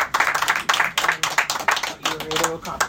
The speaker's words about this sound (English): Well, round of applause for all three of these amazing young ladies.